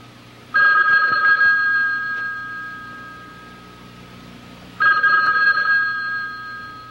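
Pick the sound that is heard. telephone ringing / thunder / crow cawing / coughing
telephone ringing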